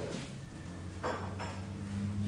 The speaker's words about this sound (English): And in the sudden stillness, some thought they heard a sound, like the clank of the rusted bell that hung on the cafe door.